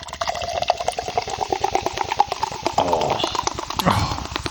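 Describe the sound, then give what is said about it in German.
A cider bottle being opened, with a rapid run of clicks followed by splashy, gurgling liquid sounds, fairly loud and without any talking. “Dann mache ich mal wieder auf.”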